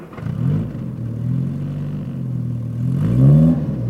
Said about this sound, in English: Anyway, the good thing is he'll take us for a drive in his new car.